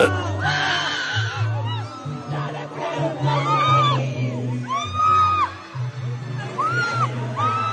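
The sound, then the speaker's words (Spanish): A dense concert crowd in Argentina screaming and yelling, with piercing whoops rising and falling over a steady low rumble of noise, loud and continuous throughout. “Pero el audio nomás se va a oír gritos, nomás se va a oír gritos y ya, güey, no se va a oír.”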